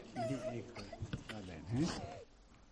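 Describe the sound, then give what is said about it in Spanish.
A 10-year-old boy cries, a wavering, sobbing voice with moaning that rises and falls in pitch, fading into quieter sniffles by the end. “El niño estaba llorando.”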